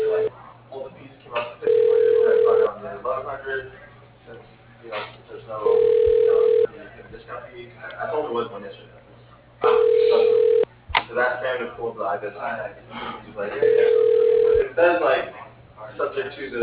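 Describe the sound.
A telephone rings through a narrow phone line while a call is transferred to an office extension: four steady, mid-pitched ring tones, each about a second long and spaced roughly four seconds apart, with muffled voices murmuring in between.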